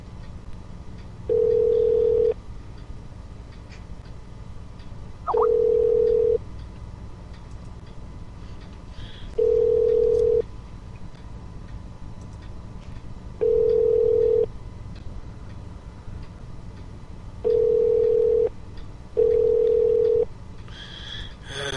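A telephone line tone from an automated phone system sounds in six steady one-second beeps, spaced a few seconds apart over a low background hum, with no one talking.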